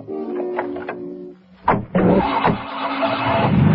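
A police car's engine cranks briefly with a couple of mechanical clunks, then catches and revs up into a steady, loud running drone as two policemen drive off after a taxi, no voices present.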